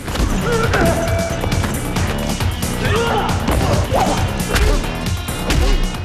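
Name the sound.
punches and kicks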